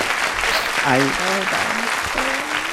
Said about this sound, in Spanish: un aplauso para los dos, por favor. Bienvenidos.